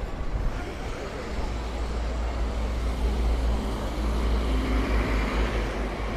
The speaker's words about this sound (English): Wait for these buses and things to go. That wasn't so hard.